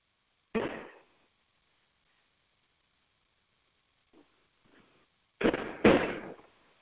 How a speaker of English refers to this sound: As apparently the major fireworks are going on. So, just taking all of that in. Then I'm just going to let this all keep settling in while the major fireworks are going off.